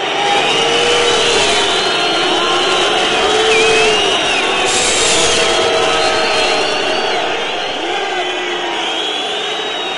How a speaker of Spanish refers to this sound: Ahí están los abucheos del Foro Romano. Los circenses están bastante enfadados con estos dos gladiadores que acaban de salir a las Arenas de Sol.